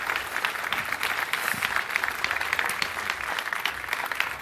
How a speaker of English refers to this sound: A warm welcome and a big applause for our speaker.